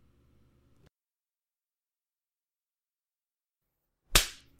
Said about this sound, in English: Oh, God. Yes, sir. My ass is nice and red while you slap it. Yes. Yes. It makes me even more wet.